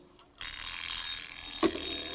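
An old-fashioned bell alarm clock bursts into a loud, continuous metallic ringing after a brief moment of quiet, rattling on steadily with no talking.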